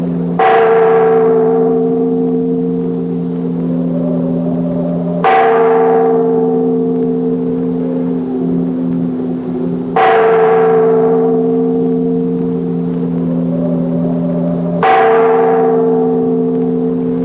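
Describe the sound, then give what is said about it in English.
A large tower bell in Venice, pulled by its rope, tolls four times at a slow, steady pace, each loud strike blooming into a long, humming resonance that rings on until the next blow. “Make that bell ring loud enough to wake the living as well as the dead.”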